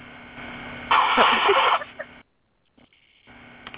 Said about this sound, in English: Well, hold on. I got to blow my nose.